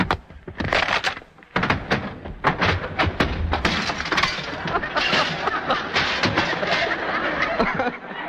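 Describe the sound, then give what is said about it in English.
A loud staged fight sound effect made by a sound man punching his palm, hitting his chest, throwing chairs, breaking fruit baskets and smashing glass: rapid thuds and cracking blows pile up into a continuous clattering din of smashing and breaking, with sharp crashes punctuating it throughout. “He punched the open palm of his hand with his fist, he hit himself on the chest, threw several chairs around, broke some fruit baskets, and finally smashed some glass in”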